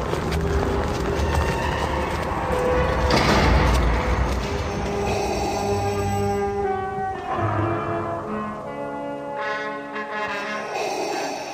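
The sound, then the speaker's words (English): A heavy door slides open with a low, grinding rumble that swells over a few seconds, then fades into sustained droning tones. “The test lies through this door.”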